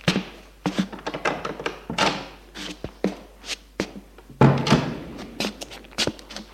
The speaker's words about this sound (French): Richard ouvre la porte communicante.